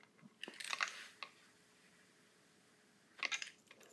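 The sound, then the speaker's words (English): Crunchy chewing of coffee grounds with gritty crackles in two bursts, one near the start and another near the end, separated by a quiet pause. No talking. “Tried to fucking chewing coffee grounds.”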